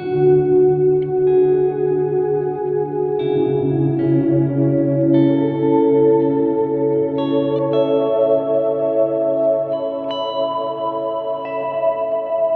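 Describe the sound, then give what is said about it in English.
Sustained instrument chords ring out through a lush reverb, each new note blooming and overlapping the fading tail of the last, forming a steady, dense wash of sound with no one talking. “I just don't want people to get overexcited, but it's a nice little reverb. Like that, yeah, I mean, it is a reverb.”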